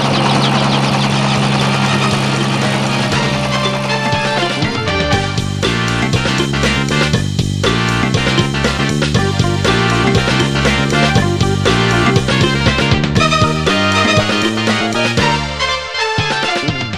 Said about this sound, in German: Dann stiegen die Hubschrauber auch schon wieder auf und ratterten davon.